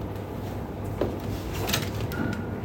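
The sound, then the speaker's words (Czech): A garden gate creaks open with a short, scraping squeal and a soft knock, set against a steady background hiss. The sound is moderately loud, with no talking. “Vrzla branka, už jí jet.”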